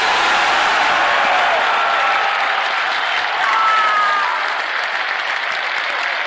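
crowd, crowd cheering and applauding

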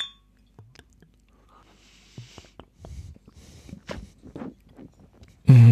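household object, drinking glasses clinking

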